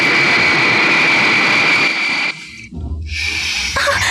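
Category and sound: sound effect, airplane engine roaring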